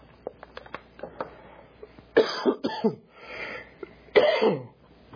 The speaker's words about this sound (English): I'm sorry, I cannot quit coughing.